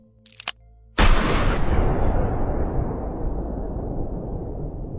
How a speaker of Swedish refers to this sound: Vapnet användes sen vid ett rån mot ett postkontor samma år i Mockfjärd i Gagnefs kommun i Dalarna. Och där under rånet så avlossades ett skott.